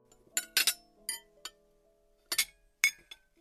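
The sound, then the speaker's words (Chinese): Glasses clink together as two people toast at a meal and drain their glasses: a series of bright, sharp chimes in irregular bursts, some leaving a faint high ringing tone that lingers briefly. No one speaks. “干杯。两人举杯一饮而尽。”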